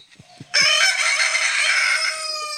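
rooster crowing

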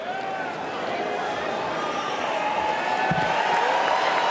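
convention crowd cheering

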